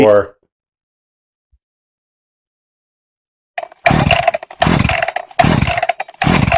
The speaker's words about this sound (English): Chainsaw.